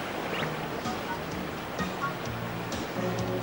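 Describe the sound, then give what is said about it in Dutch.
Steady rushing water with a broad, constant wash from a boat crossing a river, with faint low rumbling underneath and no clear voices. “Ik had nooit gedacht dat we terug zouden gaan over dezelfde rivier.”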